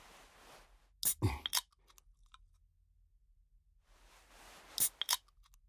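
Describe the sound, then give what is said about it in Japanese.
Crunchy chewing with no talking: two short clusters of crisp, loud bites and munches, separated by a quiet pause, with a soft rustling hiss before each burst. “じゃあ食べますか。”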